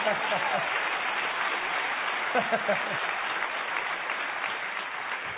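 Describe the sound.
Sustained audience applause, a dense, steady wash of many hands clapping at an even loudness throughout, with a few faint voices calling out within it.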